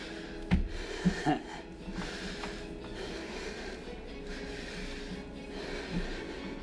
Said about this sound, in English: So, we're gonna hit a little harder. My breathing's probably gonna get a little heavier.